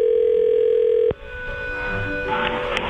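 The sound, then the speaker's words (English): A telephone line ringing tone hums steadily for about a second during a prank call to a florist, then a sharp click cuts it off and faint hiss and low line noise follow. “Flower Shop Friday is where I prank phone call florists just to see what dumb things I can get them to write on a card”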